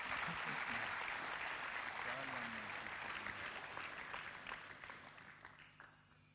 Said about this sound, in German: Ist jemand auch dafür dankbar? Кто-то тоже за это благодарен? Gib Gott dafür einen Applaus. Давайте аплодируем Богу.